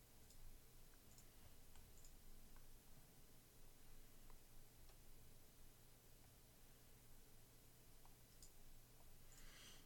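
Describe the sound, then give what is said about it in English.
Sparse, sharp computer mouse clicks, including right-clicks, tick out at irregular intervals over a steady hiss of background noise, each click brief and fairly quiet, with no voices present. “Right-clicking does not do anything for me.”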